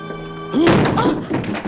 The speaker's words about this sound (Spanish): Escucha un golpe al abrir la puerta del laboratorio.